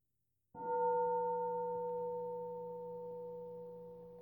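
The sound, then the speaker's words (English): A single meditation bell is struck after a brief silence, its clear, layered tone ringing out and slowly fading over several seconds with no voices. “Let's have a bell.”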